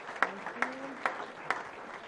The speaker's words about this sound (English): You're all being recognized today for your stellar public service. A little entry level clap there.